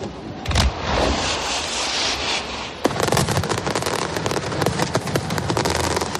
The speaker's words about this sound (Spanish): Y después de las campanadas, pues en muchos sitios, fuegos artificiales.